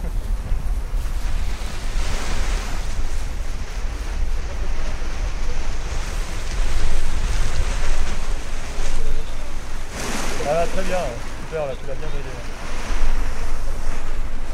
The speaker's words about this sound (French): c'est que le vent est assez bon, mais c'est toutes ces haies qui sont autour là, tu sais, ça le casse un peu le vent. Ça lui fait ouais. Des turbulences, c'est pour ça qu'elle monte et qu'elle descend comme ça.